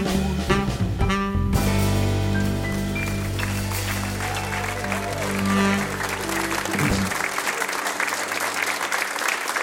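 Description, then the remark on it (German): A held final chord of a live jazz performance in Low German rings out for several seconds beneath dense, loud audience applause for the musicians, and the clapping carries on alone after the music stops. “Vielen Dank und großen Applaus für diese großartigen Musiker hier.”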